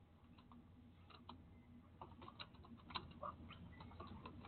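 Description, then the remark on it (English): Soft, irregular clicks of someone typing on a computer keyboard, fairly quiet, with uneven bursts of keystrokes over a low background hum and no talking. “I've been dealing with this keyboard for a minute now.”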